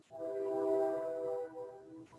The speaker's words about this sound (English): We've got the loud train here confirming everything you're saying. Like, yes, in the background.